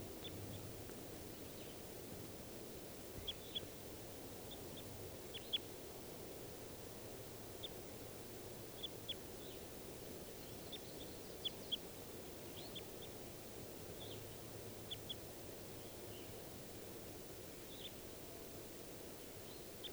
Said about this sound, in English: There are at least three birds in the trees. 391, another male and a female. And I think this is the female at the top of the tree that's calling. Stop. So recording those wild birds again.